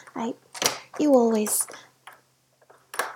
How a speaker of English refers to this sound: Oh, that? I just locked the door. My neighbor sometimes walks around drunk, and sometimes stumbles into the wrong apartment.